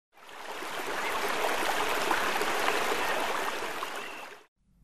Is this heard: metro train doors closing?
no